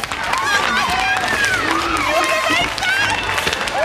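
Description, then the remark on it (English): A large courtroom-trial crowd erupts in high, overlapping shrieks and excited screams, loud and continuous, with scattered clapping and babble, reacting to the not-guilty verdict in the O.J. Simpson murder trial in Los Angeles. “You're hearing the shrieks, not of the whites in the crowd.”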